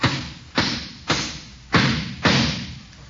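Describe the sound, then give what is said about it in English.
Five loud, evenly spaced hammer blows strike a nail into a board while building a hut, each a sharp thud that rings and fades before the next, with no one speaking. “Why don't you hold it and let me hammer the nail?”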